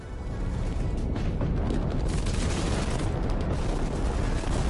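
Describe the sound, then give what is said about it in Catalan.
A dense, continuous roar of bombardment in Aleppo, Syria, with deep rumbling and crackling bursts blending into one another at a steady, heavy loudness. No voices can be heard. “Com deia, les escoles han estat tancades fins ara a causa dels constants bombardejos”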